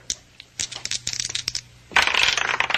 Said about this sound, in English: One of the dice turns up a 6 while the other still spins. Yeah, look at it. Si. Yeah, keep your eye right on it.